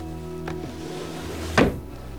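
A drawer shuts with a single dull thump as a crown is put back into it, preceded by a faint click, over a steady low hum with no talking.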